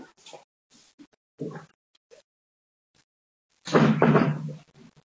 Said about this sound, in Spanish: Vale, voy a echar a puerta.